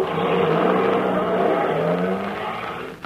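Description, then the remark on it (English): A truck loaded with a crate: its engine roars steadily for a few seconds, revving with a rough low drone, then begins to fade slightly as the vehicle pulls away. No voices are heard. “No, they've already loaded it onto the truck.”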